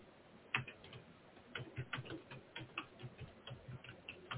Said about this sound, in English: I hear typing. Oh yeah, he's using a notepad.